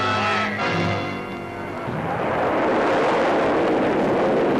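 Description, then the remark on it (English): A Nike guided missile launches on its first public flight, fired by GIs at a target plane, with a loud, steady rushing roar that swells in after about two seconds, following a brief stretch of fading tonal hum, and continues unbroken to the end. “GIs prepare to give a new guided missile its first public flight.”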